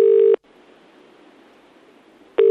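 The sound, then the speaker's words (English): A telephone ringing tone sounds in two short, loud, steady bursts separated by about two seconds of quiet line hiss, as a call rings before Gordon Brown answers his own phone. “For instance, here he is answering his own phone.”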